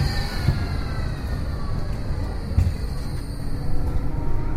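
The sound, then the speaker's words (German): A Glattalbahn tram rumbles steadily past at Wallisellen station in Zürich Nord, a deep continuous low drone with a thin high-pitched whine above it, moderately loud, with no voices. “Seit einem Jahr fährt das Tram nach Wallisellen als Teil der Glattalbahn.”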